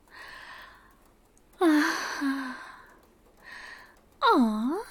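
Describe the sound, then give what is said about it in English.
A pet's big yawn, with soft breathy huffs and two loud, squeaky whining sweeps that slide down and back up in pitch. No one is talking. “Was that a big yawn?”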